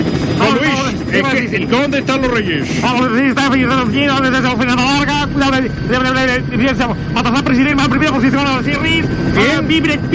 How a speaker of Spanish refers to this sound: tenemos en comunicación ya, siguiendo a los Reyes Magos, el helicóptero de RAC 1